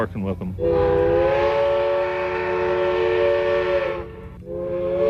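A restored steam locomotive built in Richmond, Virginia, pulling a train toward the Grand Canyon, blows its whistle: a long, steady, chord-like tone for several seconds, cuts off briefly, then sounds again, over a low rumbling engine background.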